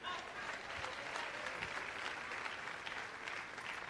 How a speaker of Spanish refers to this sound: Ven acá, de un aplauso al rescatista.